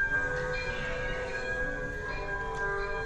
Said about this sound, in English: And what's worse, there's a train coming.